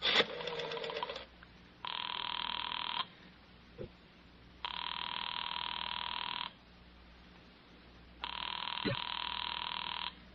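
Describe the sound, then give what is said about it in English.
A telephone rings in steady, buzzy bursts, about a second or two each, separated by short silent pauses, repeating several times at a fairly loud level. “I thought you weren't going to answer.”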